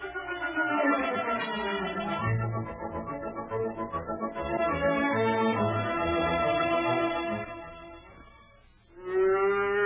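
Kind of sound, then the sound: animal, cow mooing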